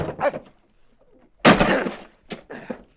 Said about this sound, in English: we're going to break down that door.